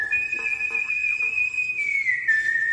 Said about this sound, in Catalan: Aquí el teniu, el característic xiulet que ens aboca el pistoler solitari que vaga pel desert entre ciutats fantasma.